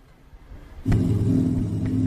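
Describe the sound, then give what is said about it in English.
A low rumble gives way to a long Santa Fe container train, maybe a couple hundred cars, rolling through a railroad crossing with lowered gates and red and white flashing signals, with a loud, steady droning hum and faint intermittent clanks over the heavy rumble. “This looks like one of these really long container trains, maybe a couple hundred cars.”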